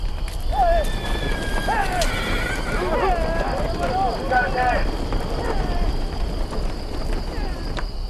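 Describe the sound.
A horse neighs and whinnies several times over a steady, rumbling background, with hooves clopping along and faint voices mixed in.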